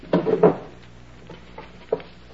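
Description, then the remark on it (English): The drawers of a chest of drawers being pulled open and rummaged through as a room is searched: two loud wooden clunks and scrapes at the start, then a few softer knocks and one sharper bump, with no voices. “You take that chest of drawers, and I'll pull the bed apart.”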